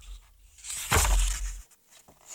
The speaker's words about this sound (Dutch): Ik vind het leuk van dit luisterboek dat je die bladzijden hoort overslaan.